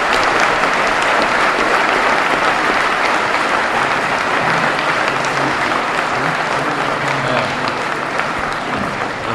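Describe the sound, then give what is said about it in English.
Sustained applause from a large crowd for a panel of speakers at a public meeting, a dense steady wash of clapping that stays loud and even for about nine seconds without breaks or voices standing out. “Let's have a round of applause for everybody.”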